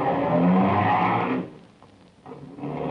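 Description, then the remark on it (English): A car engine roars loudly, cuts away to a low idle rumble for about a second, then surges back up as it starts moving again. No voices. “Car starts up again.”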